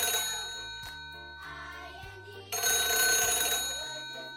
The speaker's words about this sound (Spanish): El teléfono